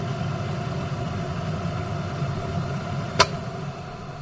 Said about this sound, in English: And a few people said it's a train. A few people said it's a sound of a car. But it's actually a sound of a boiling the kettle. So that was the sound.